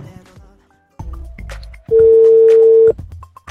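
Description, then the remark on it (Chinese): Telephone dialing tones as a call is placed to an award-winning astrophotographer for a phone interview during a program recording: a quick series of short electronic beeps, then one loud, steady tone held for about a second, clear with no one talking. “然后下面咱们就给这阿武拨通他的电话。”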